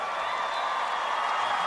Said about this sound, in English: You can't give me a cheer for twiddling a stick.